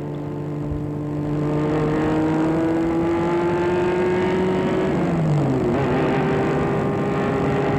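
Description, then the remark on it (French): A car engine drones loudly and steadily as the car drives a man from his plane to a restored palace, its pitch climbing as it accelerates, then dipping briefly with a gear change before rising again; no voices. “Galien est mené à sa sortie d'avion dans une voiture qui le mène dans un palace restauré”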